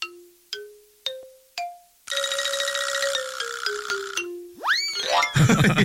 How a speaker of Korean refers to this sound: 딩동댕동 효과음 넣어주세요.